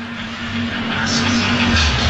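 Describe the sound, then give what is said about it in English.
A small motorized injury cart hums steadily as it drives an injured player off a football field, its low, even engine drone running continuously beneath a wash of crowd noise. “And he punches the back of the paddy wagon as he heads off.”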